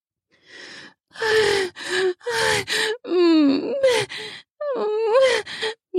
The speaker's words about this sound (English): I gasp. He groans.